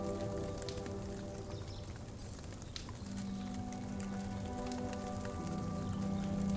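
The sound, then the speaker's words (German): Logs crackle in a campfire in a forest with irregular sharp pops and snaps over a steady low hum. The sound is fairly faint and continuous, with no voices. “Während du noch so den Geräuschen des Waldes lauschst und dem Knacken der Scheite auf dem Feuer, kommt die Entspannung von ganz allein.”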